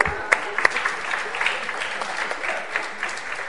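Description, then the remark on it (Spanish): An audience claps steadily for a few seconds, a dense wash of many hands with a few sharper, louder claps standing out at the start, then holding an even level to the end. “Bueno, pues te da un aplauso.”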